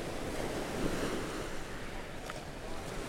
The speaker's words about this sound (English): Sound of the waves coming back up and then going back down. And all the pebbles being moved by it. You see them dancing around in the waves as they come in.